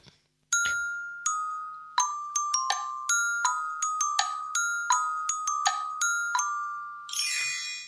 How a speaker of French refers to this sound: Nous ne pouvions résister, bien entendu, à ce petit carillon qui nous fait tourner des pages un petit peu à l'image des livres de contes, justement, où il faut tourner la page quand on entend le petit carillon. C'est notre petit carillon.